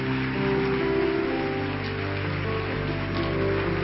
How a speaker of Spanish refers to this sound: Y yo quiero hoy que recibamos con un fuerte aplauso al Señor que vive en él, a Carlos Anacondia.